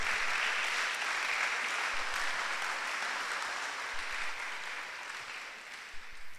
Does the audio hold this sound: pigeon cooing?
no